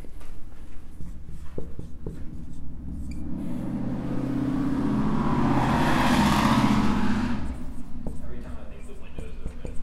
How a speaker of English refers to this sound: Nope. Just old thin windows and really loud cars.